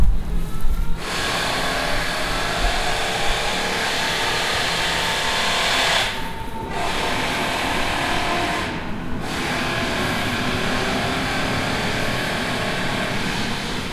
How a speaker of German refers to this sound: Oh, da kommt eine S-Bahn.